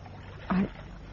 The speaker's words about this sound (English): And now this. I didn't know you could handle a boat, Cannon.